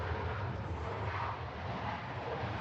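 A steady, broad roar of an aeroplane passing overhead, loud and continuous with a deep low rumble and a hiss above it, holding level for a few seconds with no speech.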